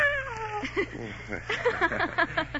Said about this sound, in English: And this is our cat, Miss Jones.